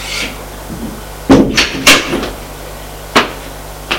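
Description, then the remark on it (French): A door opens as a servant enters an office, with a few sharp wooden clunks and thuds spread over several seconds, set against a steady low electrical hum, with no one speaking. “Le domestique entre.”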